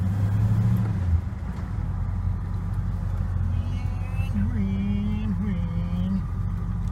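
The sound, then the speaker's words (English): A four-speed car's engine drones steadily from inside the vehicle, a loud, continuous low rumble with the pitch climbing and dipping as it revs and the driver shifts gears while driving. “Well, I don't know how this is going to work, being that this is a four-speed, so let's see what we can do here. Hold this up and fucking shift and drive.”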